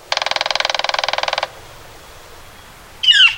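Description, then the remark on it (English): A woodpecker drums on a hollow surface in a rapid, even roll of about twenty taps lasting over a second. A pause follows, then a brief, sharp bird call near the end. “Springtime brings the sound of a woodpecker drumming on a hollow surface.”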